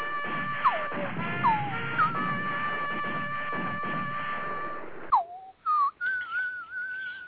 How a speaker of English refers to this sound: Like one of the pigeons chirping in, chiming in. Yeah, that's more of a bloop.